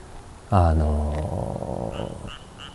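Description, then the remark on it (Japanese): A frog lets out one loud, low, buzzing croak lasting under a second, trailing into softer rough grumbling, with faint high chirps in the background and no talking. “そう、こうやってなんか言うてたらカエルがなんかいいよ。”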